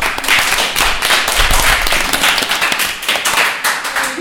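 Steady, dense applause from an audience, many hands clapping loudly and continuously for about four seconds with no voices over it.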